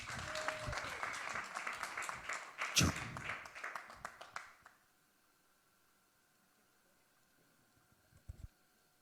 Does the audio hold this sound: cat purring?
no